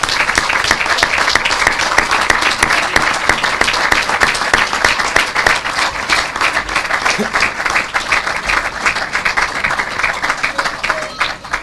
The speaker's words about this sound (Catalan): Un fort aplaudiment per a l'empresa.